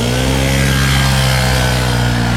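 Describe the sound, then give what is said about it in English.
A leaf blower runs loud and steady, its small engine holding a constant buzzing drone with a layered, harmonic whine and a rushing hiss, no talk over it. “Much like a bird, leaf blower guy uses a very specific noise to try and attract a mate.”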